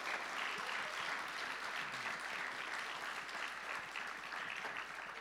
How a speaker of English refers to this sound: I'm just wondering if we can give these guys a round of applause for what they've done. Amazing. Well done.